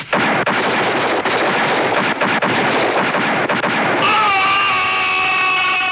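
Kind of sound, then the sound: sound effect, revolver gunfire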